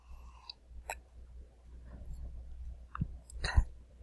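Sipping beer from a glass: a few soft wet slurping and swallowing noises with small clicks, ending in a sharper gulp or glass tap, over a low rumble, with no talking.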